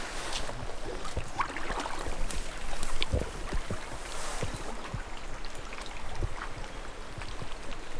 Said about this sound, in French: Donc là, je vais remettre la boîte dans l'eau en essayant de retrouver l'endroit à peu près où elle était.